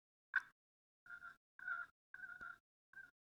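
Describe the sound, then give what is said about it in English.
Turkey clucks made on a hand-held turkey call: one sharp opening note followed by four short, raspy, evenly spaced clucks, moderately loud with quiet gaps and no talking. “Again, I'm not the world's greatest turkey caller, and I'm just starting to get my practicing in here. But you can do some clucks.”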